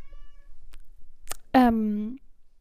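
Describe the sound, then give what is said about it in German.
A cat gives one loud, drawn-out meow that slides downward in pitch, preceded by a faint, thin whine and a brief click. “die Geräusche hört man dann auch von Nelly. Nur So soll zehn es sein. Oktaven, 10 Oktaven höher. Wirklich so. Ja, miau.”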